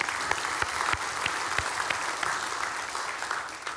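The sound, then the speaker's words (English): A church audience applauds the news of over 250 baptisms in the church, a dense wash of many hands clapping with a few sharper individual claps standing out, holding an even, moderate level throughout with no voices above it. “And many people, yeah, you can clap.”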